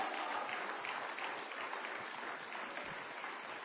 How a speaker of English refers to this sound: Give the Lord a hand clap if you believe it. Hallelujah.